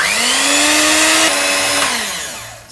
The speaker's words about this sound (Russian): Теперь бери миксер и пока на маленькой скорости замешивай.